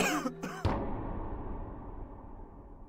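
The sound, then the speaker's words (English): A man's single sharp cough bursts out at night just outside the back door of a house, after a brief tonal sound, followed by a long, fading reverberant tail. “But then one night, while sitting at the table in the kitchen, I heard a man cough right outside the house.”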